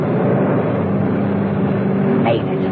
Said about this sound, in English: Mrs. Peel swung her car round and headed for the true exit of the car park. She ignored all other cars and screamed for the exit.